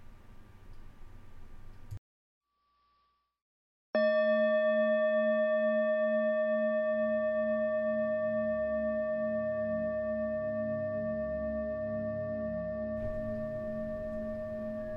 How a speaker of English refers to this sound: There will be a bell at the beginning to signal the start of the meditation and a bell at the end to finish it.